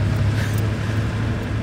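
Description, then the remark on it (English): A steady, loud engine drone with a strong low hum and a gritty mechanical rasp runs throughout from an air-cooled Porsche 911 sports car's flat-six engine idling or cruising, making weird noises, with no one talking. “And it's just pure sports car. Air-cooled, making all kinds of weird noises.”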